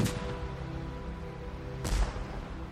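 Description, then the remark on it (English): Two heavy cannon blasts from ship's cannons aboard steamboats on the Ohio River, fired as a tribute salute while passing Harrison's tomb, boom out nearly two seconds apart, each a sharp, loud report that rolls off into a low rumbling echo over a steady background. “As they passed Harrison's tomb, sitting high on a bluff overlooking the Ohio River, the Wyandot asked the steamboat captains to fire off the ship's cannons in tribute to their departed friend.”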